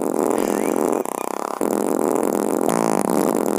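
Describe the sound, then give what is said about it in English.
A 4-second fart recording stretched by audio editing into a 42-second version: loud, continuous, warped, droning and buzzy, with a brief stuttering, pulsing stretch partway through. No one speaks. “But this is a 4-second fart, and I just started messing with it in editing.”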